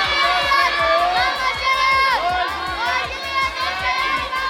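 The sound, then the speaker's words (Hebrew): A crowd of children shouting loudly together, competing to shout the loudest, their high voices overlapping in a sustained, energetic roar with rhythmic thumping beneath, like stamping or clapping. “איך החמוד הזה עם הכתום פה, איך הוא צועק, איך הוא צועק.”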